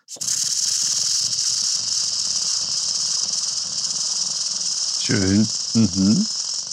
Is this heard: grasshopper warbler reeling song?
yes